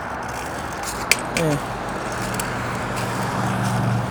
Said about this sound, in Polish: Idziemy ponad ulicą chyba Gintrowskiego, a kiedyś Rzymowskiego. Samochody pod nami. Idę po przez takie przejście nadziemne.